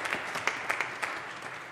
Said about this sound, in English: Y'all give them a round of applause for coming up.